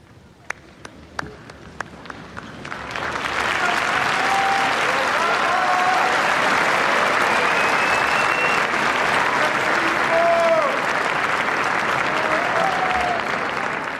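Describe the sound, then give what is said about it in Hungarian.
A few scattered claps at first, then a large crowd bursts into loud, sustained applause thanking the Holy Father for his words and blessing in the new year, holding steady, with faint whistles rising above the clapping. “Kedves hallgatóink, ugyancsak tapssal köszönik meg az új évben is a Szent Atyának a szavait, az ő áldását.”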